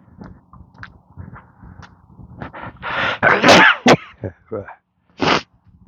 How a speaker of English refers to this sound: I'm gonna sneeze now.